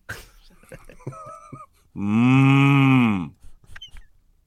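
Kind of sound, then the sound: animal, cattle mooing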